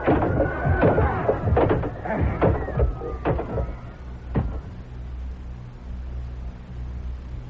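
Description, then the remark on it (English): Several heavy wooden bangs and cracks in quick, uneven succession as a locked door is battered open with a chair, then the crashing stops and a low rumbling hush remains. “The door's locked and I threw away the key. I'll break it open with a chair.”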